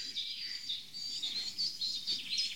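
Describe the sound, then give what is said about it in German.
A woodpecker calls amid a busy stream of high, sharp chirps that repeat in quick, uneven bursts for the whole stretch. A soft low rumble sits beneath, and nobody speaks. “Spechti. Ja, schön Spechti.”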